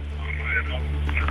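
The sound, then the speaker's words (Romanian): A radio playing in a caller's background comes over a phone line, with muffled, narrow-band voices under a steady low hum, continuous and fairly loud through the whole moment. “Radioul puțin mai încet, ne puteți asculta în telefon.”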